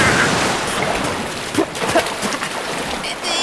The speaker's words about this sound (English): So let the Water Week begin! Cue the tidal wave!